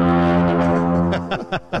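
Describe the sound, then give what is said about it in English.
A loud air horn or tuba blast heard from a hallway: one long, low, brassy tone held for about a second, then three short, sharp honks in quick succession. “I heard a tuba out there and an air horn.”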